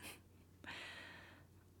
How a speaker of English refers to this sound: You know, I don't think most people who check me for weapons are breathing so heavily. Are you excited or...